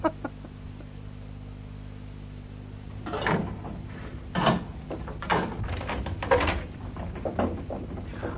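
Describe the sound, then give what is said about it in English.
A kitchen door opens and closes as someone comes in to make a delivery, with a series of wooden knocks, creaks and shuffling thumps after a few seconds of quiet low hum, no voices. “You don't usually use the kitchen door.”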